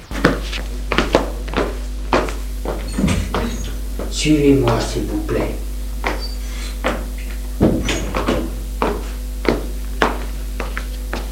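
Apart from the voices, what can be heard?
door being opened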